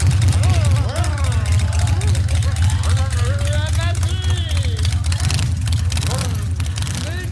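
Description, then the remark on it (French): A horde of motorcycles roars loudly past through a neighbourhood street, a dense, continuous engine rumble with revving, rising and falling tones that stays strong for several seconds before easing slightly. “Et derrière nous, je vis une horde de motos qui avaient suivi.”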